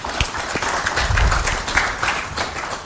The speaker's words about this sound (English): Therefore, let us clap for the people of Norway.